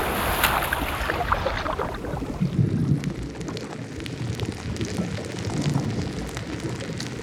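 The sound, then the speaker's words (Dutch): Dense underwater crackling of pistol shrimp snapping on a healthy coral reef, countless sharp clicks overlapping into a steady sizzle like frying bacon, with a low watery rumble beneath and no voices. “Dit zijn pistoolgarnalen.”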